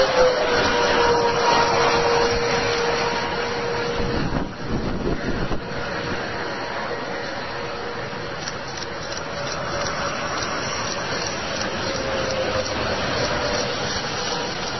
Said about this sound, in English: It's an F5 tornado. Not good